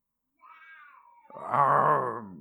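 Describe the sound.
A voice imitates a lion's roar. A thin, wavering whine slides downward, then swells into a loud, rough, drawn-out growl that trails off, with no other talk.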